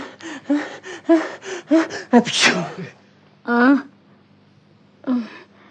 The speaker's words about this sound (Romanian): Ce e? Îmi vine să strănut. Țineți-vă pentru Dumnezeu. O să speriați pe majestatea sa.